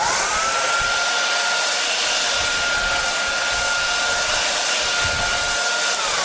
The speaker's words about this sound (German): Dafür haben wir einen Föhn. Achtung! Es liegt alles bereit. Achtung! Das ist jetzt wie beim Friseur. Ja, das ist ein richtiger Föhn.